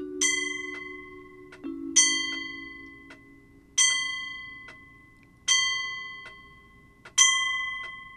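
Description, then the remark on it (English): A clock in a living room strikes five o'clock, chiming five times in a slow, even rhythm, each bright, ringing stroke fading out before the next, over a faint low hum. “Five o'clock. 0 hour. It had come. And now it had gone. But was the clock right?”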